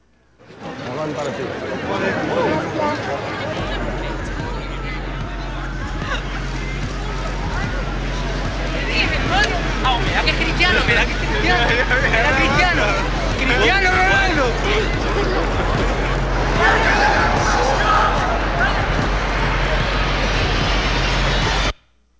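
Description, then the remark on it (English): A dense crowd murmurs and chatters steadily throughout, many overlapping voices forming a continuous hubbub, with a low rumbling hum underneath and the din swelling slightly louder in the latter half. “But I want you to notice the crowd.”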